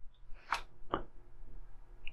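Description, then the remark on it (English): A door opening: two soft, quick clicks about half a second apart, like a latch and handle, followed by a faint rustle, with no one speaking. “Sounds like somebody opened the door.”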